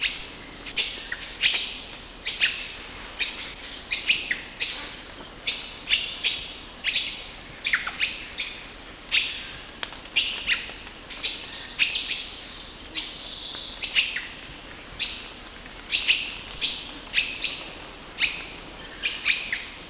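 Repeated short, bright chirps from at least two adult males overlap in an irregular rhythm over a steady high-pitched buzzing background, fairly loud, with no voices; recorded 22 December 1970 in Kibale Forest, Uganda.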